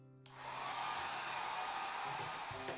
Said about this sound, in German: Das braucht man nach dem Duschen. Korrekt, einen Föhn.